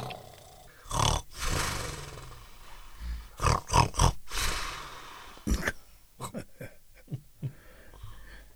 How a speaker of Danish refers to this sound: Så lagde ulven sig i sengen og begyndte at snorke.